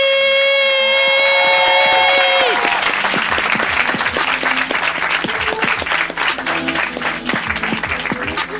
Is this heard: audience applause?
yes